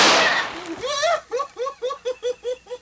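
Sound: gunshot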